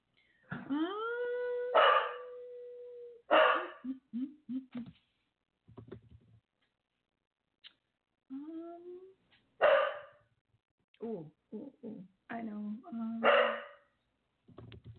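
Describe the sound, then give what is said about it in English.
A female pet dog barks repeatedly in irregular bursts, mixing sharp barks with a drawn-out howling whine and a few quick yips, loud against quiet gaps. “My dog keeps barking.”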